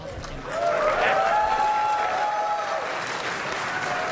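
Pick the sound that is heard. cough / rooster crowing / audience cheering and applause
audience cheering and applause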